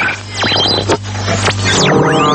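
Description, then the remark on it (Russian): A radio art composition, "Radio on Radio" by German radio artists and dedicated to the art of radio, built from shortwave-style noise: dense crackling static with whistling tones that swoop up and down in pitch, over a steady low hum, with no voices. “Вы слышите не кратковолновый шум и помехи. Это композиция немецких радиохудожников «Радио на радио», посвященная искусству радио.”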